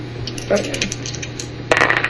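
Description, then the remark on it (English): Two dice, rolled for a punching attack in a tabletop role-playing game, clatter and roll across a hard tabletop, a few quick taps followed by a louder rattling tumble near the end, with a steady low hum underneath. “Wild Dice got 3, the other one got 1, so I didn't hit 4.”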